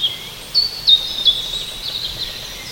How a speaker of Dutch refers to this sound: Het is opgehouden met regenen en ja. De vogels melden zich weer. Ja, lekker hè. Nou, we horen roodborsten, we horen merel, ik hoor een vink, ik hoor net een zwarte specht, ik hoor een koolmees.